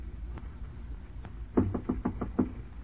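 A quick series of about six sharp knocks on the door of compartment 3 on a train, evenly spaced, over a steady low rumble with no one speaking.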